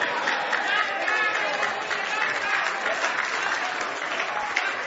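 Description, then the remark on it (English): An audience claps their hands in steady, sustained applause, a dense wash of many hands filling the room with a faint murmur of voices underneath. “Raise your hand. Clap your hand. Praise the Lord.”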